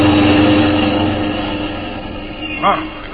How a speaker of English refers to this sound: That car is headed right at you.